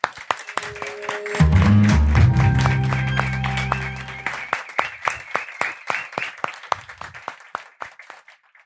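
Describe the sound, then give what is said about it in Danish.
An audience applauds for Copenhagen Contemporary, with dense, crackling clapping that thins toward the end, while a brief low musical chord swells underneath partway through. “Og jeg synes, vi skal give en sidste rigtig stor hånd til Copenhagen Contemporary.”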